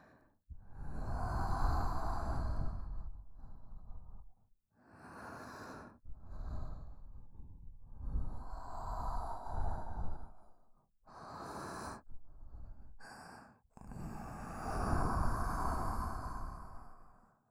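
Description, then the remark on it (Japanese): Warm breaths blown very close into a wet ear, a series of long, airy exhales separated by short pauses, soft and intimate with a breathy hiss, no talking. “濡れたお耳にあったかい吐息かけられるの。”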